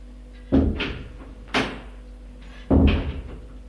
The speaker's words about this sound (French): Il se dégage, ouvre la porte et sort.